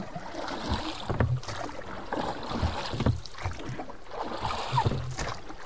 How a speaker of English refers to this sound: The boatmen began to row.